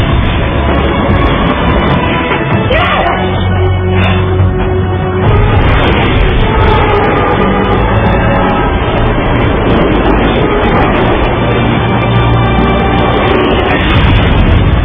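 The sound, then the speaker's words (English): A loud, continuous roar of the speeding runaway train 777, with heavy crashing and grinding metal early on as it smashes through the rearmost car of train 1206, the rumble persisting intense throughout. “Frank and Will finally make it into the rail track right in time, as the runaway train smashes through the rearmost car of their train.”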